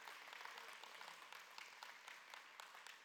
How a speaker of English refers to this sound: So let's begin today and give God a hand clap of praise. Amen.